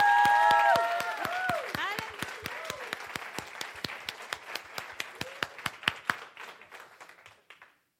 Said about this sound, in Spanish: A ver, si le va a dar un aplauso al Señor, déselo duro.